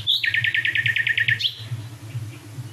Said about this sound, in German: Also so halb links und dann halb rechts. Noch ein, ich glaube, auf der Aufnahme ist es nicht zu hören, aber dahinter singt noch eine vierte. Also wir hören jetzt gerade, ich höre jetzt gerade vier Nachtigallen gleichzeitig.